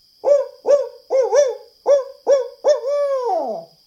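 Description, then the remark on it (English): A barred owl hoots a rhythmic series of six short, clear calls, ending in a longer drawn-out hoot that slides downward. It is fairly loud, with no talking. “It was so smart to use the barred owl song as a signal.”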